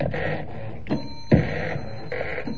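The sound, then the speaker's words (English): A malfunctioning computer whirs and buzzes in uneven electronic bursts, with high droning tones that cut in and out and a couple of sharp clunks in the middle. No one speaks. “It doesn't sound very healthy.”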